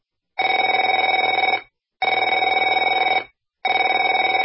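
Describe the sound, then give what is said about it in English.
A telephone rings in three long, steady bursts separated by short pauses, each ring a bright, buzzing electronic trill with no voices underneath. “Afraid to answer it?”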